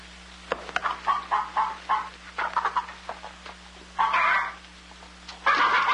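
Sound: chickens clucking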